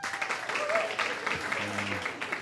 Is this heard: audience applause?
yes